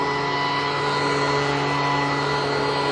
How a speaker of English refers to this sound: And I got a guy with a leaf blower up here, pushing about 5 leaves around.